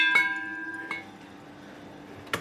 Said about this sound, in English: Ring for attention. Well, we will then. There's a bell hanging here.